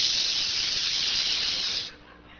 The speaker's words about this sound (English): It sizzles. And just the sizzling and popping sound of a weenie on a grill, man, you start, your mouth starts watering and your stomach starts growling, and man, you're ready to tear the hinges off a door. There's nothing like a weenie on a grill.